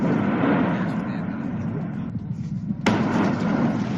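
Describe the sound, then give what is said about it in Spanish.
A deep, continuous roar of an erupting volcano rumbles loudly and steadily, with a sudden sharp blast cracking through near the end before the heavy rumble carries on. “vamos a volver a escuchar de nuevo el rugido del volcán.”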